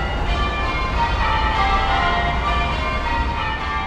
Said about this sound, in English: St. Paul's square brick tower rises over the busiest street in Geelong. It's the only church in town that does English change ringing. Each bell is attached to a large wheel and balances with its mouth pointing up.